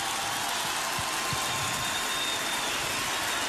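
A large crowd at the Quinta Vergara in Viña del Mar applauds a returning singer steadily, a dense wash of clapping that holds at an even level throughout with no speech over it.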